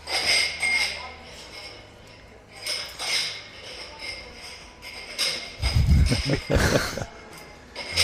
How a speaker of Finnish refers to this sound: Mietiskelen hetken, kun aterimet on paha juttu. Mä luulen, että lasit kuuluu niin myös. Kaikennäköinen muu hälinä yleensä häipyy tässä, mutta nämä on sellainen, mikä tulee, joo, tulee läpi.